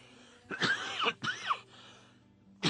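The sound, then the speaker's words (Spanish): A few raspy coughs come in separate bursts: two back to back, then a short pause before another begins. No one speaks. “Perdónenme por esto de la tosecita.”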